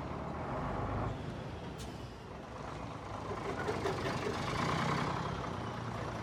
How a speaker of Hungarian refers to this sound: Körülöttünk nem csak a feltárás folyik, hanem a földnek az elhordása is, éppen most fordul mellettünk egy teherautó.